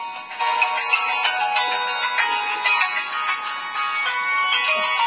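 A phone ringtone plays a steady electronic melody for several seconds, fairly loud with a thin, tinny tone, and no one speaks over it.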